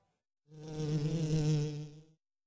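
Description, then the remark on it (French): A bee buzzes steadily for under two seconds, a loud drone with a rich harmonic hum that swells in and fades out, heard on its own without any talking. “L'abeille est devant le nez de Mireille.”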